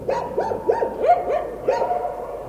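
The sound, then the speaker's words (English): Dogs bark in a quick, uneven series of sharp, slightly yelping calls, about half a dozen in a few seconds, with no voices present, recorded in Afghanistan. “He also records dogs closer to home.”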